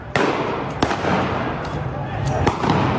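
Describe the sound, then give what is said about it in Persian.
Three sharp, loud gunshot cracks ring out at irregular intervals over a dense, noisy crowd with murmuring voices, as shots are fired at protesters in Isfahan, Iran, protesting over the Zayandeh Rud river and the region's water crisis. “صدای شلیک گلوله پاسخ به شهروندانی را نشان می‌دهد که از برگ زاینده رود و بحران بیابی اصفهان به دلیل مدیریت ناکارآمد مسئولان گفتند.”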